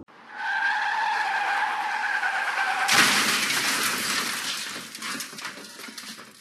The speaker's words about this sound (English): Before I flipped my car, I was able to make out a face and her twisted mouth to go with the headlights.